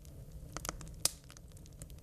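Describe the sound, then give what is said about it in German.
A crackling campfire sound effect: irregular small pops and snaps, with one sharper, louder crack midway, over a soft, steady low rumble. Fairly quiet overall, with no voices. “Also ich will mehr Lagerfeuer.”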